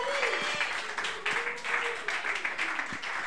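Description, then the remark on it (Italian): A crowd at a live music show applauds steadily for a few seconds after the band plays two songs, dense overlapping claps at moderate volume, with some voices murmuring and calling out underneath. “Fate un altro applauso, va.”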